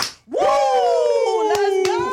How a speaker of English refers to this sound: So we kick off every interview with a two claps and a Ric Flair. So it's woo.